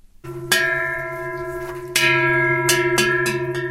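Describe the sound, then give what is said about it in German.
A bell hanging around the neck of a cow standing on a pasture clanks with its steps in uneven strikes, a few sharp metallic clangs with ringing tones that linger between hits, loud with no voices. “Eine Kuh steht auf der Weide, um den Hals hängt eine Glocke. Und die bimmelt bei jedem Schritt munter vor sich an.”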